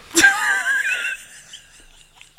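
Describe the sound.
A mouth-made fart imitation: one sharp burst opens a buzzy, wavering raspberry that lasts about a second and trails off, followed by a few faint clicks and breaths.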